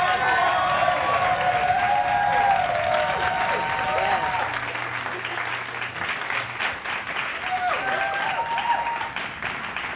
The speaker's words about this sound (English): I think that deserves a hand clap praise.